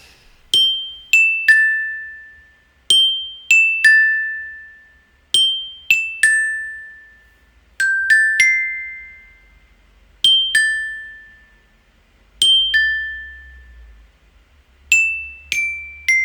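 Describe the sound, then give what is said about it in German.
A glockenspiel plays a bright, ringing pop melody in short phrases of quick struck notes, each decaying slowly, with brief pauses between phrases; no voices. “Passt aber ganz gut, denn die nächsten beiden Schnipsel sind auch auf dem Glockenspiel eingespielt,”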